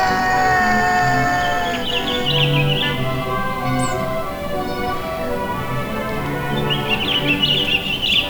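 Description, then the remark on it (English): Wild birds twitter in high, fluttering bursts that come and go over a dense, steady bed of sustained tones, with no one speaking, in the Little Wonder audio play Can You Hear the Birds. “I hear the wild birds sing.”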